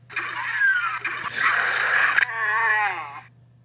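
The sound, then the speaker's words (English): A sputtering car engine in the phone car racing game Vroom strains and wheezes for a few seconds, the car having a bad engine; its wavering pitch turns noisier and harsher midway before sliding downward and fading out. No one speaks over it. “That car didn't sound too good. No, you gotta take that car into the shop. Yeah, he had a bad engine.”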